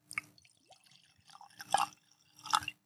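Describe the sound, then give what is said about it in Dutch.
Lagavulin whisky being poured into glasses, with short gurgling splashes and bright glassy clinks in three brief bursts, the last two louder, separated by quieter trickling. “Lekker geluidje. We hebben mooie glazen.”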